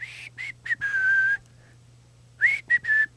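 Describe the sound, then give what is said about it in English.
A person whistles a short, casual tune: a few quick notes, a longer held tone, a brief pause, then several more notes. No one speaks, and a faint low hum sits underneath. “I picture like the sports information guy hitting send on the tweet and then just like whistling as he walks away.”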